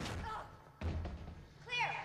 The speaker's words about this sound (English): Moving around edgily, the girls approach the doors and kick them open, revealing rooms full of junk.